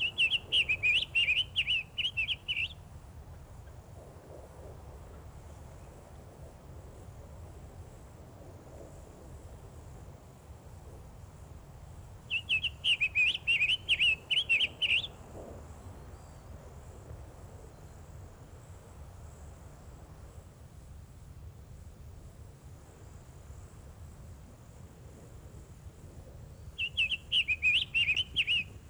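A summer tanager sings three short, warbled phrases spaced well apart, clear, over a low steady rumble and a faint, thin insect hum.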